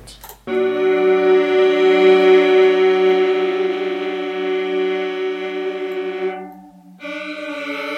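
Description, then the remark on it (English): A sustained synth drone with rich, stacked harmonics and a shimmering chorus wobble holds steady and loud, fades briefly near the end, then resumes. No voices. “Could I hear it with like a bit of chorus effect on it?”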